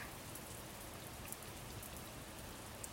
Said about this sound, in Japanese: 私の声なんかよりも、雨音を聞いてくださいよ。